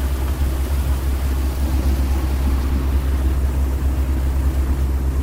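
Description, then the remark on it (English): A ferry engine rumbles steadily as the ferry crosses the Vltava river in Prague, Czech Republic, in winter, a deep continuous drone with a low throbbing hum that holds constant throughout, with no voices over it. “The engine comes down.”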